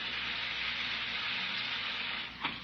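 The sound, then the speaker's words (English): Carbonated water fizzes from a dispenser in a steady, bright hiss that runs unbroken for a few seconds, ending with a small splashy burst. No voices are heard. “No, turn on that carbonated water. I want to hear it fizzle.”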